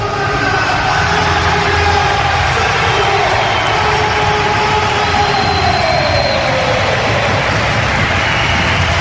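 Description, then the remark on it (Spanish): A big crowd at the Palau roars in a sustained ovation for player Sergio Lozano, back on the rink, during the player presentation as he applauds the fans. It is a dense, steady wall of cheering and applause that stays loud and even for the whole stretch, with no one speaking clearly above it. “L'ovació del Palau, Sergio Lozano, que va cap al cercle central, aplaudeix als aficionats”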